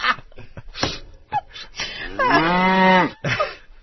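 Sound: cow mooing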